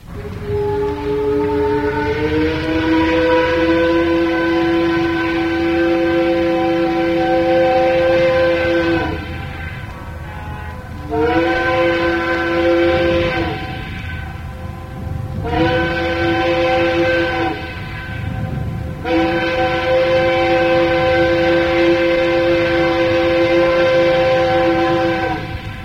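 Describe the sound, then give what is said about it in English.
The deep, chime-toned whistle of the Detroiter, a little steam towboat dismantled at a landing on the Upper Kanawha, is blown in four long blasts, each held for several seconds with brief pauses between, loud over a steady rumbling background. “He kept the whistle, and here he is blowing it.”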